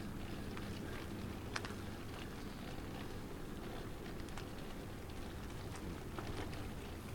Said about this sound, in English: Well, the skies are getting ever more leaden, and every time I pull out the microphone, the rain seems to turn itself up a notch in intensity, although it's not exactly a downpour, but it's just a kind of insistent drizzle.